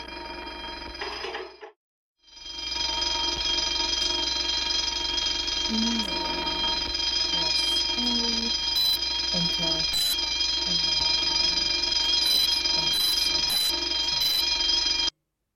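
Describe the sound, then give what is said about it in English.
A loud, continuous alarm from an alarm system rings with a harsh, bell-like tone, cutting out briefly near the start and then blaring steadily. Faint voices can be made out underneath. “One of us has to stay here and watch the CCTV, and I'm guessing you haven't been shown how to set the alarm system.”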